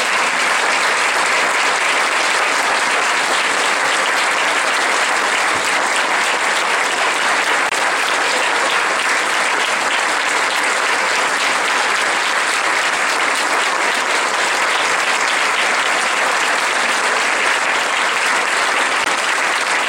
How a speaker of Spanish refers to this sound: Yo les quisiera pedir a quienes nos han acompañado estos 20 años, no que pasen a hablar, nada más que se pongan de pie, por favor, para que les demos un aplauso.